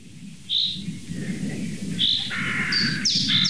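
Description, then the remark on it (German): Crows call several times outdoors in a forest, a string of short, bright cries, some overlapping, over a steady low rumble of wind or traffic. “Bis die Krähen kamen.”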